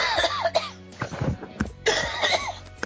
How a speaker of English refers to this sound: Well, I heard you cough anyway.